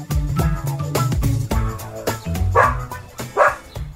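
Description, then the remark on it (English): A dog barks loudly twice in the second half, the barks distinct, over a steady bed of background music with no talking. “What's the Polish word for dog?”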